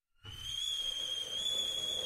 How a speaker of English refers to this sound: Oh, the kettle's boiled. Great, perfect timing.